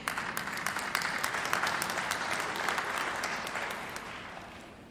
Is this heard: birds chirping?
no